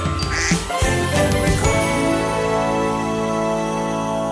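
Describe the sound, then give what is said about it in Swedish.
A telephone rings on its own with a bright, tinkling electronic tone. It starts with a few jangly notes, then settles into a steady sustained ring that stays fairly loud. “Det ringer.”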